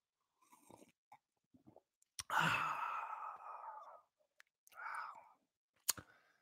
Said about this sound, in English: Nice little sip of coffee.